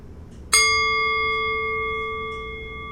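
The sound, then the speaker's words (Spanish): A single meditation bell struck once at the end of a breathing-awareness meditation, the same bell heard at its start, ringing out with a clear bright tone and several shimmering overtones that sustain and fade slowly over a few seconds, heard alone without any talking. “Estamos llegando al final de nuestra meditación y conciencia de la respiración, y va a escuchar el sonido de una campana, el mismo que escuchó al empezar la meditación.”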